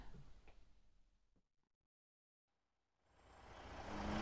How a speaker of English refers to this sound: As soon as he's got the lorry backed up.